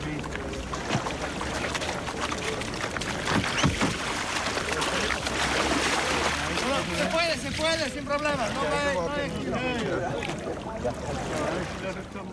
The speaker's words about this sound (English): I'm watching you ordering everybody about and getting the boats off the trailer and into the water.